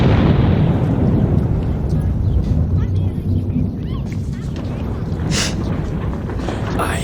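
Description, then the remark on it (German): A loud, rumbling explosion from a can of flambé gas bursting inside a microwave, with continued crackling and booming that slowly fades over several seconds, heavy. “Das knallt ja immer noch.”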